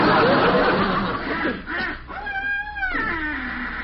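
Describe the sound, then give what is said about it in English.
A boy imitates wild geese honking: breathy, raspy squawks followed by a few nasal, drawn-out honks, fairly loud, with no other talking. “That was geese. Can you keep it quiet, …? Wild geese.”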